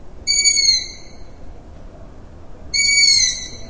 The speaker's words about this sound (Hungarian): Május-júniustól pedig a fiókák jellegzetes sívítása is gyakran hallható.